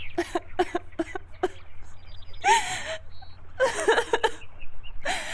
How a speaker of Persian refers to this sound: حالا از چی خاطر گریه میکنی؟